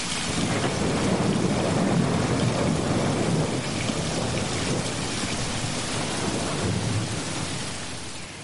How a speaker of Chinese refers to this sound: 好，这是三种不同的雨声。第一个雨声呢是小雨的声音，第二个雨声呢是正在下雨的声音，第三个呢是下了大雨加上了雷声。